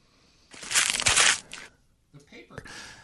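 household object, paper being crumpled up

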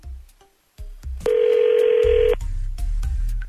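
signal or alarm, telephone call being dialed

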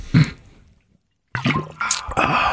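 food or drink, sipping water

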